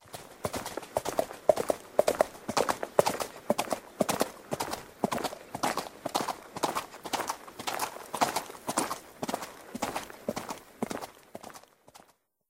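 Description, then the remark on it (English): Horse hooves clip-clop in a steady, even walking rhythm, each hoof strike crisp, continuing for about twelve seconds before stopping. No voices are heard. “I can ride a horse.”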